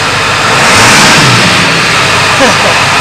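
car engine revving

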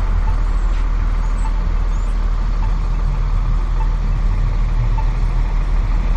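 road traffic passing by

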